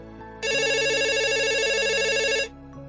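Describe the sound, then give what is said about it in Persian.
A telephone rings with a bright, warbling electronic trill lasting about two seconds, loud, over a faint low hum, then cuts off abruptly. “صدای زنگ تلفن را نشنیده گرفت و ناخنش را داخل نایلون فرو کرد.”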